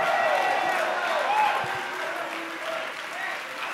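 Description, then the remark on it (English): An audience at a church service claps hands steadily and shouts together for victory, a dense, loud wash of applause with raised voices and cheers rising above it throughout. “Go ahead, take 30 seconds and clap your hands and shout.”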